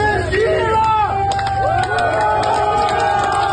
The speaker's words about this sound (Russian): «Вагнер – сила» – такими восклицаниями и аплодисментами провожали жители Ростова-на-Дону, уходящие из города колонны ЧВК «Вагнер».